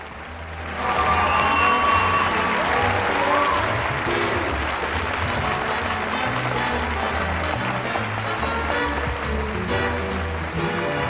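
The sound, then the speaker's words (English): A large audience breaks into loud, sustained applause, a dense wash of clapping that swells in the first second and holds steady throughout, with faint cheers mixed in, greeting Bob Hope as he makes his entrance on stage. “Standing on the stage, he soaks up the applause before stepping forward to a microphone stand.”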